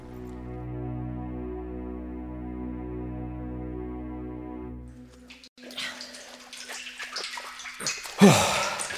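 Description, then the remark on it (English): A steady low droning hum gives way to continuous sloshing water with scattered splashes and drips, ending in one louder splash, in a deep tunnel under the river heading towards the Tower of London. “You sure you don't mind the water?”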